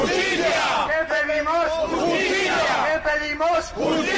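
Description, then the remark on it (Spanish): A crowd of protesters, people whose houses in Escalante and Argoños face demolition, shouts a chant for justice and awareness in unison outside the High Court of Justice of Cantabria and the regional government. Loud, strained voices rise and fall in rhythmic bursts with brief breaks between phrases. “Al grito de justicia y sensibilización, los afectados dicen sentirse engañados.”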